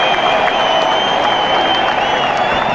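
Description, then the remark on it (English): An applause sound effect: a burst of dense applause, steady and loud throughout, like a crowd clapping all at once with a bit of cheering noise mixed in, no speech over it. “I did not get one single applause.”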